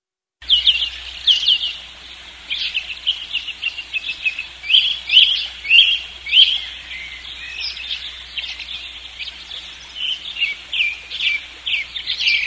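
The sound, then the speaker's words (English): Birds chirp and sing continuously, a busy overlapping chorus of quick high tweets and trills with no voices, steady throughout. “Oh, the birds beat me back in.”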